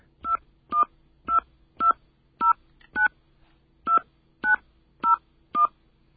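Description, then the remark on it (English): Ten short touch-tone beeps from a phone keypad as a 10-digit phone number is dialed, each crisp dual-tone press evenly spaced about half a second apart, clear with no talking. “Please enter the 10-digit phone number you wish to call.”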